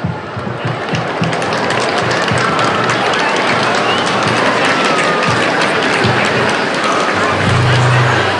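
A crowd applauds steadily for about eight seconds, a dense, loud wash of many overlapping claps that holds at an even level without pause, with a faint low hum near the end.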